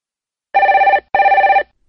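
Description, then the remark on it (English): A telephone at Southern Rental Car rings twice with a call from Nelson, two loud, warbling electronic bursts of about half a second each with a short pause between, heard clearly and alone with no talking. “I'm ringing from Nelson, but I'm coming over to Auckland for 12 days and I'd like to hire a car.”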